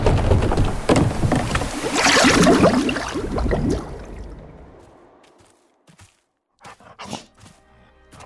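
A boat moves along a river with loud, churning splashes of paddling that fade away after a few seconds, leaving near-silence broken by a few scattered drips and knocks.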